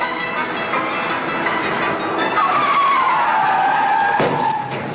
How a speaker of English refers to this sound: Oh, what are you doing? Just testing the brakes, eh? The brakes are out, we're plunging down a hill, sure to crash.